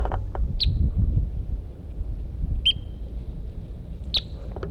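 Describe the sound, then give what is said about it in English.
A Red Crossbill, bird M4, sings on top of Price Mountain, January 25, 1984: three short, bright whistled chirps spaced about a second and a half apart, each a clear high note standing out over a steady low rumble of background noise. “beginning of tape January 25th, 1984, up on top of Price Mountain with Birds. M4, who's in song.”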